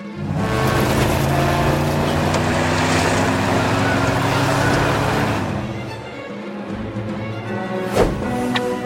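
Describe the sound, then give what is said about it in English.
A loud, steady roar of a speeding truck engine drones, easing slightly toward the end, where a single sharp knock cuts through before the rumble continues. “It's unbelievable how you can keep up with a speeding truck by swinging on vines.”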